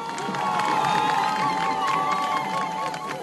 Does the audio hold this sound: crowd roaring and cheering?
yes